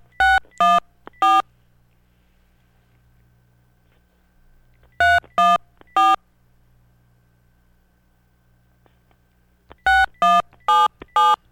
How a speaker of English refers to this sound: Here we go with the dialing again. Let's see what happens. See if we can reach the person here on WWGH Radio.